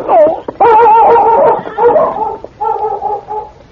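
Sergeant Preston's dog King whimpers and yelps excitedly on a trail, running around, in several long, wavering, high-pitched bursts. The whining is loud, with brief pauses between the cries.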